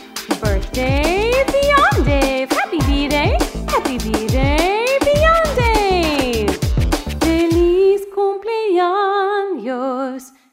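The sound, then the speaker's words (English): A dog howls in a long, wavering, rising-and-falling tone near the end, right after several seconds of continuous voiced sounds. “My dog says, ah-woo!”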